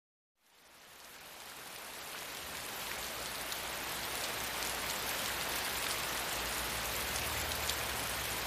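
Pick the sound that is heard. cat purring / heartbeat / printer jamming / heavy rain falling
heavy rain falling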